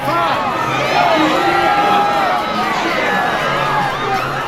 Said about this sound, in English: Suddenly, there's a commotion near the front door. It sounds like someone is shouting, "Fight!"